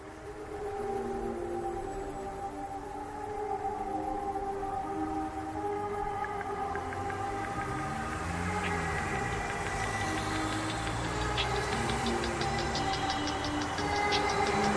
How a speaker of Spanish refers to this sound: Vale, pues vamos a escuchar una de las canciones, ¿no?, del álbum que has dicho